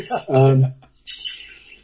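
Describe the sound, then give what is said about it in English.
A pet bird calls up close: first a loud, tonal squawk-like note, then a thinner, high chirping trill that trails off over the next second. “I'm down here with the bird.”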